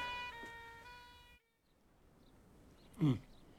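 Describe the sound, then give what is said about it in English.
An arriving ambulance sounds a loud, steady horn-like tone for over a second before it cuts off abruptly, followed by quiet and then a brief, sharp burst of noise. “Oh, that'll be the ambulance.”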